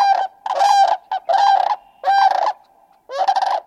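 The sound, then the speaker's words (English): A series of loud, harmonic honks from geese at Ridgefield National Wildlife Refuge on the Washington side of the lower Columbia River, in quick bursts, four or five calls close together with brief gaps, with no talking. “The geese arrive at the refuge about the same time as hundreds of stately sandhill cranes whose calls evoke the wild like few other birds.”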